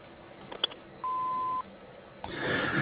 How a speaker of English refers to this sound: Hi, thank you for calling R&J Harvesting. We're not available to take your call right now, but please leave your name and message after the beep. We will call you back as soon as we can.